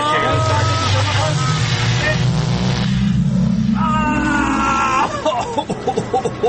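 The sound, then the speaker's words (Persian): A loud time machine activation effect: a heavy mechanical rumble with a steadily rising hum, followed by a second climbing whine that fades into a busier, rougher texture near the end. “ببین ماشین زمان جان که خیلی شده بزن.”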